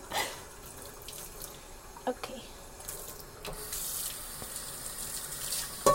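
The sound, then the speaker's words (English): Running tap water splashes steadily into a sink while dishes, including a very hot pan, clatter and scrape as they are washed, with a brief spoken word partway through. “Don't you just love doing dishes? Especially with a very hot pan.”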